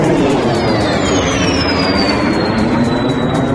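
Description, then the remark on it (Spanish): A loud, steady roar of Russian military jet aircraft passing over the town of Vinnytsia, Ukraine, during the Russian invasion, with a high whining tone that slides steadily downward in pitch over a few seconds. No voices are heard. “Así volaban los aviones rusos por encima de este pueblo de Vinitsia”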